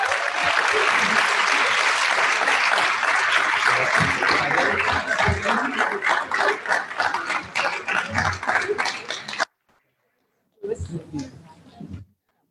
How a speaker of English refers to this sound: This is definitely home to excellence and these bilingual students. Round of applause for all of them, please.